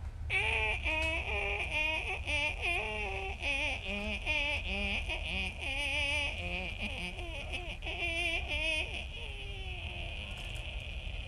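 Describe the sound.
A rusty barn door hinge creaks on and on, a loud run of wavering, squealing groans that rise and dip in pitch over a steady high whine.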